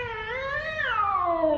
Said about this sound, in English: There's a kitty cat.